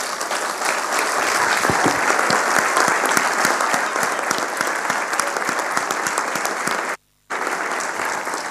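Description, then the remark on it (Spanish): A large audience at a school applauds steadily and loudly for the late Chino Busti, three-time governor of Entre Ríos, a dense wash of many hands clapping together that breaks off for a split second near the end, then resumes at the same level. “Y que yo quisiera que hoy, que no, ya no está, lo aplaudamos mucho.”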